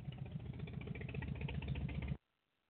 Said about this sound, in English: Sorry, I had a motorcycle going by.